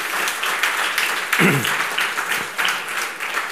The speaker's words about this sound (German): Und das ist doch auch mal ein Applaus wert.